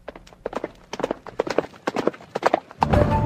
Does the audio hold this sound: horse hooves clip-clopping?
yes